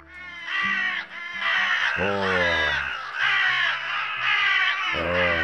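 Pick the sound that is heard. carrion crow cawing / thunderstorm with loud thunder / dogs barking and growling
carrion crow cawing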